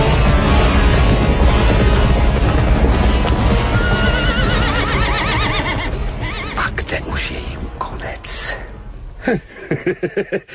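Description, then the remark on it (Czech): Several horses whinny over a loud, dense clatter of hooves and commotion as a group of riders mounts and rides off toward the desert, the sound gradually receding and ending with a few distinct hoofbeats. “Na koně, všichni na koně! Nežli se setmí, musíme být daleko odtud v poušti.”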